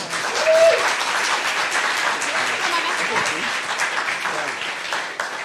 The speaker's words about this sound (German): Applaus.